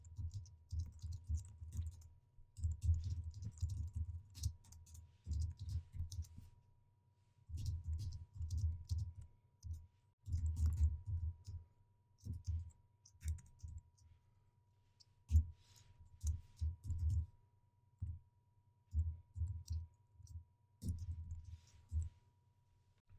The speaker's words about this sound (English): We're going to type in the following code. Make sure you're in between your mouse cursor or your text cursor is in between the sub main and the end sub. And I'm going to stop talking and start typing.